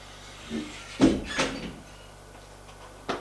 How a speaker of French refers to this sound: Frappe à une porte.